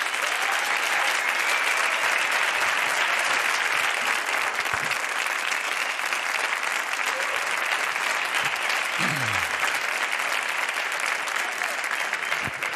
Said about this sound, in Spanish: Un gran aplauso para el gran Pepe Colubi.